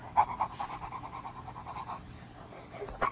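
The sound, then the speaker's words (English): A voice imitates a dog panting, a quick steady run of short huffing breaths, fading out near the end before one brief, sharper breath. “I see a white dog looking at me. Woof.”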